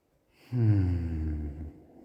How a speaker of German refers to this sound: Den Atem lässt du wieder ganz frei fließen. Oft hilft dabei erstmal so einen tiefen Atemzug, wo wir wirklich tief in den Bauch atmen, um wieder die Bauchspannung wirklich frei zu geben.